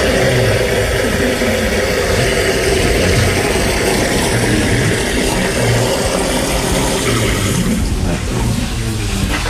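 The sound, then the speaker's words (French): A toilet flushing, a loud, steady rush of water that roars continuously and churns throughout, with no voices. “C'est la chasse d'eau.”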